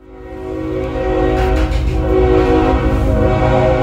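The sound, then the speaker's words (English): A loud freight train, La Bestia, which runs from the south end of Mexico to the north, rumbles past while its horn blares a steady, sustained chord over the heavy rolling noise, swelling and holding strong throughout with no voices. “There's this train called La Bestia that runs from the south end of Mexico all the way to the north.”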